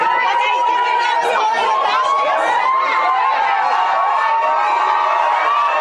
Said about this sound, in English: Yeah. And while they're all excited and having fun, the media is trying to scream out questions to him to try to bait him into something terrible.